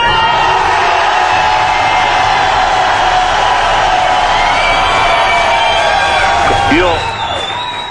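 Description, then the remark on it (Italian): A loud, dense crowd roars and cheers continuously, many voices shouting together, with a sharp whoop rising near the end as the noise begins to fade. “Allora, prima di iniziare io voglio sentire l'urlo della gente giusta.”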